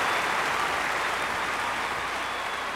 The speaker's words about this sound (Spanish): se oye un aplauso de aquí hasta Huetitán.